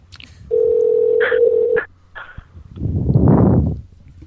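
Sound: phone number being dialed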